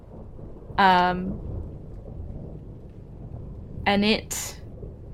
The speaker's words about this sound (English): And as it opens its mouth is when you hear like this sound of thunder.